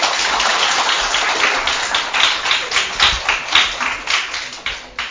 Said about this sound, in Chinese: 所以再给她一个掌声。